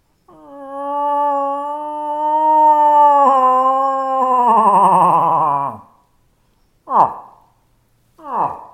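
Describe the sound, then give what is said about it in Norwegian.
A call imitating a moose cow in rut, made with the hands only and used during the rut to lure in bulls: a long, loud, moaning wail that roughens and falls in pitch, followed by two short, grunting downward calls. “når du bruker den lyden når det brunsttid, så det som regel slik at da står oksene rundt kua”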